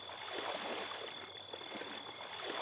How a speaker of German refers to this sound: Da schleicht eine Gestalt zum Schwimmbecken. Sie lässt sich langsam ins Wasser gleiten.